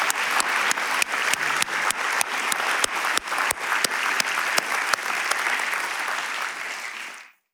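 An audience applauds with dense, steady clapping and a few sharper claps cutting through, holding at a loud level for several seconds before fading out near the end. No one speaks.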